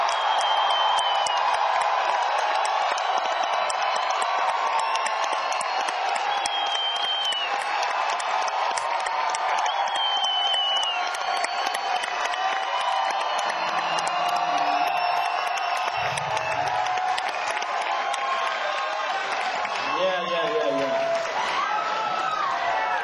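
A large crowd cheers and applauds loudly and steadily for over twenty seconds as a legendary drummer is introduced, a dense wash of clapping broken by scattered high whoops and shouts.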